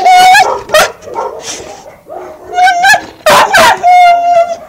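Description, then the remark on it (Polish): Several dogs at the animal shelter in Bielsko, Poland, bark and yelp in loud, overlapping bursts with high whiny whimpers between them, a busy chorus of kennel dogs with no one talking. “W bielskim schronisku przebywają generalnie psy i koty”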